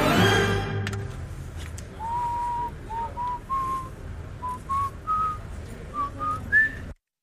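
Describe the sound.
Prime Minister Lars Løkke whistles a slow, wavering melody, the notes gliding and rising in short phrases after a brief burst of noise at the start.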